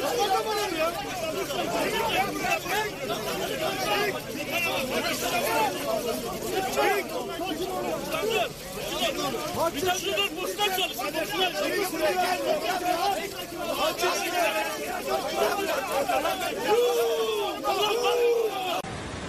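At a street protest at Abide Kavşağı in Şanlıurfa, a group boos and jeers mayor Zeynel Abidin Beyazgül without pause, a dense, loud hubbub of many overlapping voices with shouts rising and falling above the din for the whole stretch.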